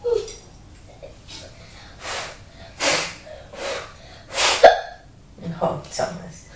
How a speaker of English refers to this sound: Oh, no. That was an even louder hiccup than before.